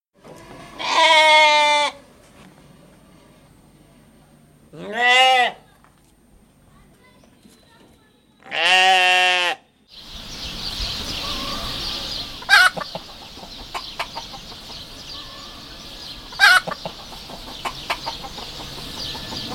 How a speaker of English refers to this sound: And now, traffic. For that, we take you to 10 uninterrupted minutes of farm sounds.